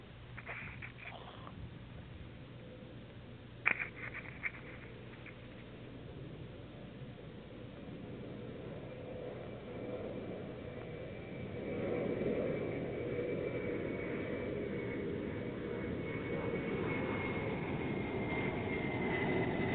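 A large TriStar wide-body jet airliner passes overhead above a quiet desert during noise level testing against FAA noise regulations, its broad engine rumble swelling gradually and staying loud toward the end, with a faint high whine and a couple of brief clicks early on.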